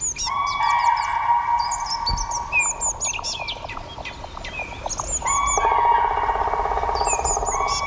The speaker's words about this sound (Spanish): Y están como dibujando el horizonte más allá, al fondo, ¿no? En la lejanía, esos gritos ya con que se estiran, reverberan. Están dibujando el paisaje sonoro. ¿Eso qué es? Son diferentes pájaros carpinteros de diferentes especies.